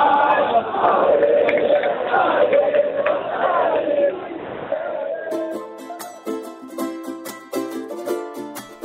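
A loud crowd of AC Milan football fans in Milan cheers and chants, celebrating the men's football championship win, in a dense, continuous roar for about five seconds before it cuts abruptly to music.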